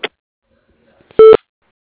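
A single short, loud voicemail beep, a steady electronic tone lasting under a second, sounds after a brief stretch of near silence, with a faint clipped bit of voice at the very start.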